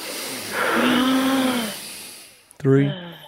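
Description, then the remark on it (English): A group of people draws in one long, deep breath together during a counted four-second breathing exercise, a loud airy rushing hiss that swells and fades over about a second and a half, followed by a brief voiced sound. “I'm going to count it out, and we all need to breathe in as deeply as we can.”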